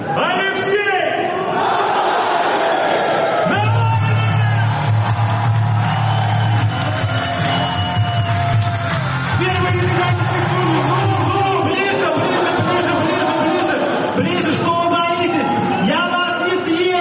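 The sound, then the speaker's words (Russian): A large crowd in a huge hall cheers and applauds loudly and without pause for about seventeen seconds as Alexei Navalny comes on stage at the presentation of the Smart Voting project, with clapping blended into a dense roar of shouting voices that swells after the first few seconds. “огромному залу, сотни людей держат в руках таблички с именами оппозиционных политиков и юристов фонда борьбы с коррупцией, экспрессивный ведущий, прямая трансляция в интернете и выход на сцену Алексея Навального под аплодисменты.”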